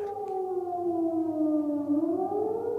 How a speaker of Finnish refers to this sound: hälytysmerkki. Ihmiset meni pommisuojaan tai sitten oman kerrostalonsa pohjakerrokseen suojaan.